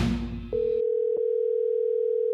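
A brief clatter gives way to a steady, unbroken telephone dial tone that hums on alone at moderate loudness while a call is placed, interrupted once by a faint click.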